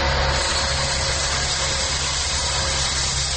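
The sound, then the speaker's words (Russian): Heavy road-repair machinery runs nearby, around 7 a.m., heard in an apartment through the balcony. It is a loud, steady engine drone with a low rumbling hum and a constant hissing wash of noise, unbroken throughout, with no voices. “К несчастью, в этот день поблизости начался еще и ремонт дороги.”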